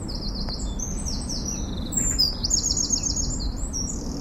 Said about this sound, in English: The wee birds will be starting to sing.